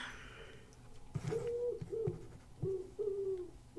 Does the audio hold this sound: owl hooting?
yes